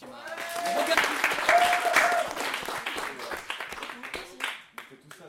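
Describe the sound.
An audience applauds in a dense wash of clapping that swells early, holds steady, then thins out toward the end, with a few voices and whoops mixed in.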